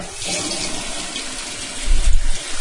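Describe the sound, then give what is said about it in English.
Fresh water pours steadily over soaking rice, a continuous rushing splash that swells into a heavier gush near the end, with no talking. “I'm just going to pour some fresh water on it.”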